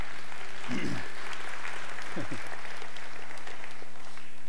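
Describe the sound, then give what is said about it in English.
A church audience applauds a minister's 12-year anniversary, a dense, steady crackle of many hands clapping throughout, with a couple of brief voice sounds rising underneath. “That's pretty easy, you know, to get applause if it just for not dying in 12 years.”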